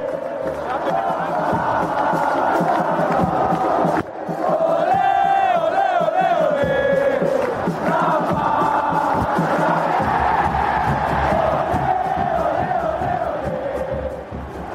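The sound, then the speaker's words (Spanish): A huge crowd at Estadio OmniLife roars in a sustained standing ovation at minute 7 of a Chivas vs América clásico on 26 April 2015, bidding farewell to a Guadalajara player, thousands of voices cheering and chanting together in a dense, loud wall of sound that swells midway and holds steady throughout. “en un clásico Chivas América, el 26 de abril del 2015, cuando al minuto 7 se paró el Estadio OmniLife a ovacionarte aplaudirte, a despedirte y a darte las gracias por haber sido jugador del Guadalajara.”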